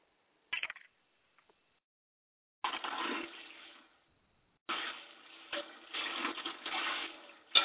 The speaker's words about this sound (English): Somebody washing dishes or something. Cooking.